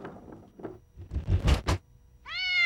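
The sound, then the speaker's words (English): In a bowling alley, a few soft knocks and a rumbling, rolling clatter as a curled-up black cat is used as a bowling ball give way to a loud, drawn-out cat meow near the end, clear, with no talking. “The identical twins roll balls down the lanes, and a mad woman uses a curled-up black cat as a bowling ball.”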